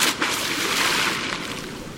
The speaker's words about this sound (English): Still, each splashing dive of a brown pelican today marks one of the country's outstanding conservation successes and reminds us of the precarious balance of our ecosystems.